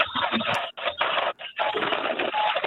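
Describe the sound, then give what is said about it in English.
Harsh, buzzing interference on a phone line from other incoming phone calls that are being rejected, arriving in three loud bursts broken by brief dropouts, with the tinny, narrow sound of a telephone connection and no talking. “Oh, we're having a little noise issue here. That should go away. Those are other phone calls I'm getting.”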